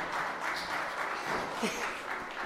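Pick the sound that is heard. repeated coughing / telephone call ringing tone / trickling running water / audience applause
audience applause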